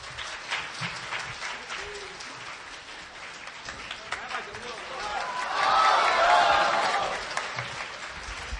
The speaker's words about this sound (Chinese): 我们用最不热烈的掌声来邀请我们的六位嘉宾 来。